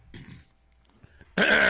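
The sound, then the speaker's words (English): A person clears their throat: a short rough rasp, a brief pause with small clicks, then a much louder, harsher guttural burst that runs to the end. “I had to clear my throat.”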